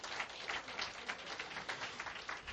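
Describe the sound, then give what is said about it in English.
An audience claps together in a dense, steady wash of applause, many hands overlapping into a continuous crackling roar with small swells, no voices standing out. “Give him a hand clap.”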